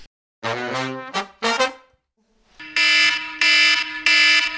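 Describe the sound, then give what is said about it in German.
A harsh electronic alarm clock blares in three loud, evenly spaced bursts, preceded by a few shorter tonal beeps and a brief pause, piercing. “Jetzt geh aus, du blöder Wecker.”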